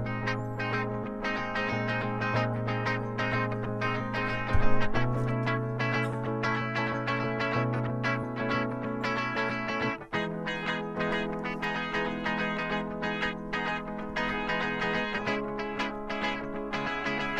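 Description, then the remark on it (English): Two electric guitars, one on the left and one on the right, play together with no other instruments, repeating a moody minor-key figure with sustained, ringing tones and slightly processed, echoey timbre at a steady moderate volume. “So this is just the two guitars. There's only two guitars, one on the left and one on the right.”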